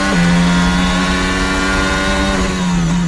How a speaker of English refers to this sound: When you wake up in your hotel every morning over the race weekend, you can hear cars on the track, and it just gets you so excited for all the action you're going to see that day.